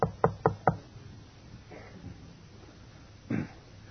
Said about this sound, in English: I had a knock on the door one Thursday.